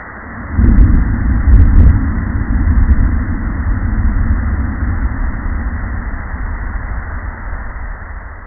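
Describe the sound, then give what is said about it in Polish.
Hydrophone recording of the probable implosion of the Titan submersible near the Titanic wreck, recorded 900 nautical miles away: after a brief quiet hiss, a sudden deep boom with a second surge a second later, then a long, low rumbling roar that slowly fades. “Usłyszycie teraz prawdopodobny dźwięk implozji Titana, zarejestrowany 900 mil morskich dalej.”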